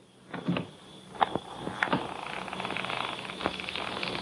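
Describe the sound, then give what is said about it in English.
A door of a country house is unlatched and opened: a few sharp mechanical clicks and knocks, then a faint creak and low rustling as it swings, with no voices. “I got a feeling nobody is going to open that door.”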